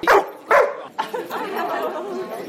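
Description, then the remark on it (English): Two sharp, high puppy yaps ring out in quick succession, followed by a stretch of thin, wavering whines and soft whimpers at a steady, moderate level, from guide dog puppies at a puppy day for students at UCLan in Preston. “This is what they're like when they're puppies.”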